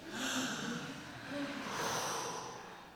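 A deep breath drawn in and let out, two airy, rushing swells lasting about a second each, with no talking.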